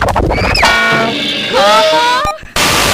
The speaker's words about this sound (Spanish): La bocina acústica se inventó en Francia en 1688 y servía solo para la casa. Después se introdujo en Alemania y se la aplicó en la música. La bocina es utilizada en barcos, trenes, motocicletas, bicicletas y en la radio.